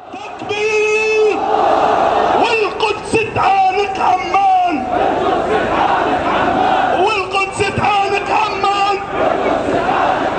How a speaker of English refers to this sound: You're listening to sounds there from a crowd of Palestinians chanting in protest on Friday to the installation of metal detectors at the entrance to the Al-Aqsa Mosque in Jerusalem.